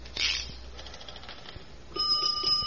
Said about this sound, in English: To send fire alarm, lift guard, then pull handle. Yeah, now a bell goes off in the box, but don't let it scare you.